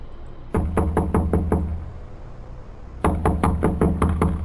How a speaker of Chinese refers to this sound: 我开始敲门。